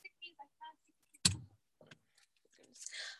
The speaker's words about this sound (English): keys.